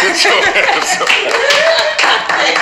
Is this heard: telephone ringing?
no